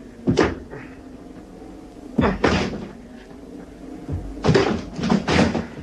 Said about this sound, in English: I'm going to try and force the door.